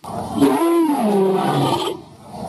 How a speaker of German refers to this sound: Dazu ist es ganz hilfreich, wenn man sich tatsächlich mal heutige Großkatzen anhört oder zumindest heutige Katzen anhört. In der Tat klingen Löwen so, also ähnlich.